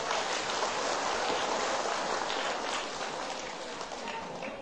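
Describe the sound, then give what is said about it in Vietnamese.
A crowd of young listeners, asked for a big round of applause, breaks into loud applause, a dense, steady roar of many hands clapping that holds for several seconds and eases only slightly toward the end, with no voices. “Nếu việc làm đó là có thể thực hiện được, xin các cháu hãy dành một tràng vỗ tay thật to.”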